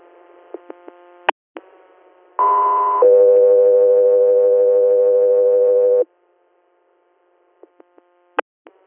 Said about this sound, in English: Guthrie Air, stand by for tones.